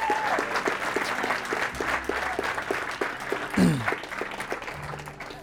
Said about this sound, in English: How about we just give God like a little shout, a little clap, a little thank you for all he's done to get us here. Thank you, God, huh? Yeah.